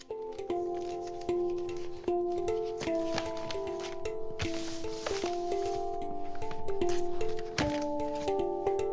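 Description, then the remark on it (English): Crinkling of wrapping paper and snips of sticky tape being cut as a person sitting on the floor cuts a strip of tape and sticks it over wrapping paper held in place with a foot, with brief clicking and rustling bursts over a steady, stepping melodic music bed, and no talking. “Tommy's sitting on the floor, cutting a strip of sticky tape. He sticks the tape over some wrapping paper”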